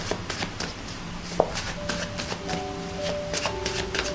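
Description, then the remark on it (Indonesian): Cards are shuffled for a fortune reading in a quick run of soft, papery flicks and taps, irregular in rhythm, with faint sustained tones humming underneath. “Seperti biasa, Bunda akan shuffle kartunya.”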